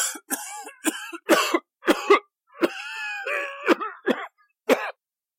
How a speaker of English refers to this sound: To his horror, he heard coughing and sputtering coming from the darkness underneath the bridge